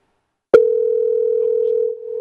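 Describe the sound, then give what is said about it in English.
After a brief silence, a loud, steady telephone dial tone starts abruptly with a click and hums on continuously at one pitch, alone, while redialing a motel to reach a guest room. “Sorry, no one is available to answer the call. To leave a... We'll try again.”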